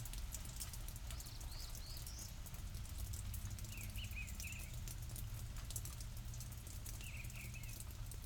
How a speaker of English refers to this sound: I think the rain's letting up a little bit. It's not. It's mostly dripping now. I'm not even sure if it's raining or if it's just from the roof. Hard to tell. I don't know, it feels a little constant to be just from the roof